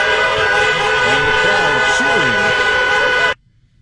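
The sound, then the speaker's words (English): A loud, dense chorus of car horns blares continuously for over three seconds, with voices faintly audible underneath, then cuts off abruptly into near silence. “Now, these people say, why do they do this horn honking?”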